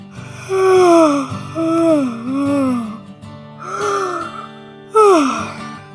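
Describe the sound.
A voice acts out a big, exaggerated yawn: a series of loud, drawn-out vocal moans that slide downward in pitch, with short breaks between them.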